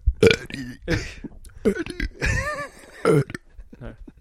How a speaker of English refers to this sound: Next time you have a burp on, try and say Eddie. Can you burp talk?